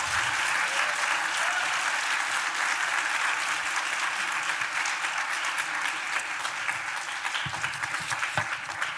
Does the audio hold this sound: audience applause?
yes